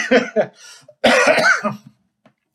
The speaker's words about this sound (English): It's been a couple weeks. I'm still coughing a little bit. Nothing like the previous week. Holy shit, that was bad.